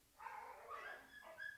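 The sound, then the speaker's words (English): A mad dog whimpers in high, wavering whines, with a couple of short yips or barks mixed in, all fairly faint and with no talking over it. “Pupper dog's mad.”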